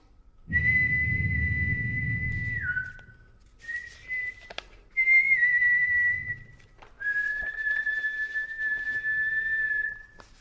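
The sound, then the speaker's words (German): Tuneless human whistling in long, mostly flat sustained notes, four phrases with brief gaps between them, clear, with a faint low rumble beneath the first note. “Ein Pfeifen setzt sich aus dem Off durch. Unmelodisch, etwa so.”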